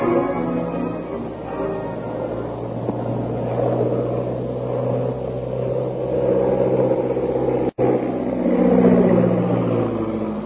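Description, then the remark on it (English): A big black seaplane's propeller engine drones steadily with a low, throbbing hum that swells and shifts slightly in pitch as it circles over a plantation house and lands on a river, broken by a brief cut near the end, with no voices. “The big black seaplane circles over the plantation house and lands like a dead leaf on the surface of the inky river.”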